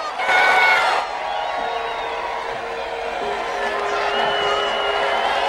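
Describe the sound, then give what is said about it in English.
A large crowd in the stands cheers and applauds, with a loud burst at the start that settles into a steady roar of voices and whoops. “Guy and the rest of the popular kids applaud from the stands.”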